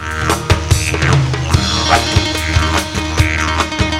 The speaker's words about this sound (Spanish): Un programa que comienza con el sonido del Jideridú.